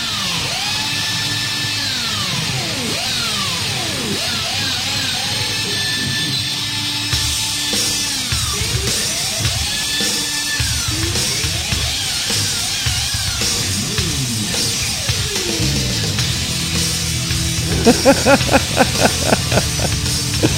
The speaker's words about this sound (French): Écoutez la perceuse puis la griffe qu'il va faire avec la guitare.